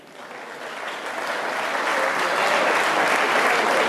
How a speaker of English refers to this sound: Yeah, you could clap.